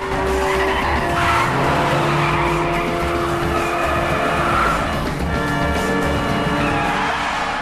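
A black car carrying two men tears away from the scene with its tires skidding and squealing, engine roaring loudly throughout, with sustained screeching tones over the rumble and no voices.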